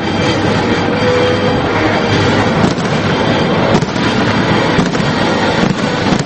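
A traditional fireworks display opening a film festival on July 2 bursts in a dense, continuous roar of crackling and booming, loud, with a few sharper bangs standing out. No one speaks.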